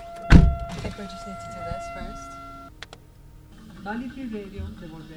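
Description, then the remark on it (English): Inside a car parked across from the Florence Community Center during the first live broadcast of WXOJ 103.3 FM: a sharp thump near the start, a steady two-tone electronic chime for a few seconds, and muffled voices talking in the enclosed cabin. “we are sitting in our car across from the Florence Community Center, where they are broadcasting the first live broadcast ever of WXOJ 103.3 FM.”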